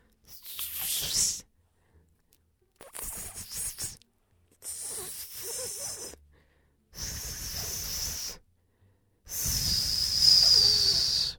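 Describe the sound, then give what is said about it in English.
Five breathy, airy blows separated by short pauses, a failed attempt at whistling; only the last burst carries a thin, wavering high tone through the hiss. “Am I whistling, guys?”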